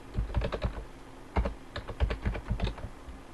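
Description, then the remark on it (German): Quick bursts of typing on a computer keyboard as an admin password is entered and a software package is searched for, the keys clicking in uneven runs with a short pause in the middle, fairly clear with no one speaking. “Ich klicke auf Anwendung, Software hinzufügen, entfernen, gebe das Admin-Passwort ein. Okay. Suche nach dem Paket.”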